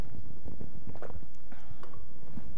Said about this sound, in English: Sorry. Just going to take a sip here.